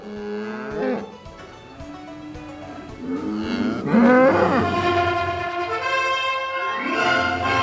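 cattle mooing

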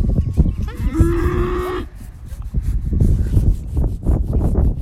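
dairy cow mooing

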